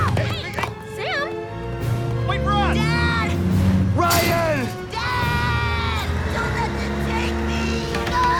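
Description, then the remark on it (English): A container truck's engine rumbles steadily and loudly as it speeds off, almost buried under frantic, rising and falling shouts and cries for help that carry on throughout. “And Bridget, Benny, and Larry watch helplessly behind the wire fence as the truck speeds away.”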